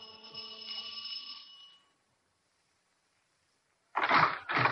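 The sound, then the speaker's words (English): The front doorbell of a house on Wonderland Avenue chimes with a bright, ringing electronic tone that fades out after about two seconds. Silence follows, then two loud, rough bursts of noise. “We went up the front stairs and rang the doorbell.”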